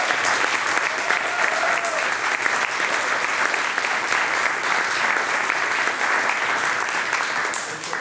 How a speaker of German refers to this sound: Deswegen erstmal einen riesen Applaus an dieser Stelle